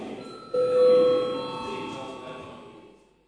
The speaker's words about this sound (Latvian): Lūdzu zvanu, lūdzu deputātu klātbūtnes reģistrācijas režīmu.